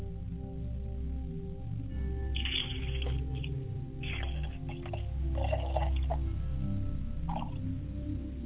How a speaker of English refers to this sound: Ladies and gentlemen, as libation is poured, we fertilize the ground so that when the word falls, it will not fall upon stony rocks, but it will take root and grow and spring up.